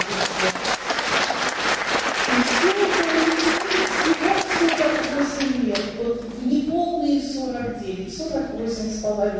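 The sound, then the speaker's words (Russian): Dense, steady audience applause at a concert fills the first two-thirds, then thins and fades out as a person begins speaking over it and keeps talking alone. “Я думаю, наши аплодисменты.”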